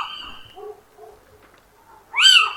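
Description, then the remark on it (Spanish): A little owl, recorded at 6 in the morning, gives a loud, clear, mewing call that rises then falls, following a quieter trailing call at the start and a brief lull. No talking. “Este es el sonido del mochuelo.”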